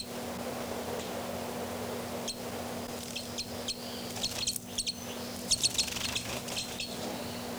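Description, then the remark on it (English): Two birds, numbered 273 and 274, call back and forth in flight in short, sharp high-pitched chirps, coming in quick clusters over a steady background hiss and a low constant hum, growing a little louder toward the end. “Both birds.”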